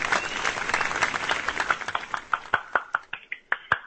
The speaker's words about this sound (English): I'm clapping for myself.